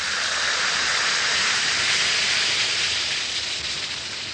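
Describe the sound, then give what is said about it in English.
Alka-Seltzer tablets fizz in a glass as they dissolve into liquid, a steady, dense hiss of bubbles that stays strong for several seconds before easing off slightly at the end. No voices are heard. “Yes, it's action in the glass, changing Alka-Seltzer tablets into the liquid form your system can use easily.”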